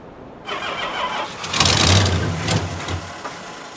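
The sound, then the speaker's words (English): An engine cranks over after the ignition is turned, a loud, rough mechanical churning with rapid rhythmic pulses that runs for about three seconds without clearly catching. No one speaks. “you want to hop up there and turn the ignition key?”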